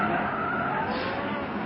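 A car skids violently through a half circle in the road with a sustained, harsh tire squeal, loud. The screeching scrape holds steady for a moment with no voices over it.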